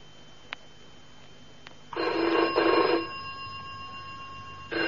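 A telephone bell rings loudly, one long double burst followed by the start of another, after a couple of faint clicks; no one speaks.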